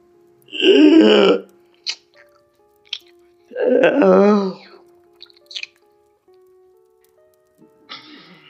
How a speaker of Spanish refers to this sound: Vomité. Vomité y abrí la canilla.